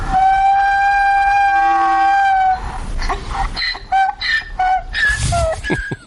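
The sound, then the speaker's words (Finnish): A donkey brays loudly, starting with a long, steady, reedy tone, then breaking into a rhythmic run of rasping hee-haw calls that seesaw in pitch. No one speaks. “Aasihan on aika tavallinen eläin.”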